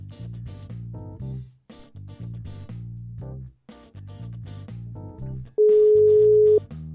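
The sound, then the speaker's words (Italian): A phone ringback tone of an outgoing call sounds once as a single loud, steady one-second beep, coming right after several seconds of upbeat instrumental music. “Eccolo che squilla.”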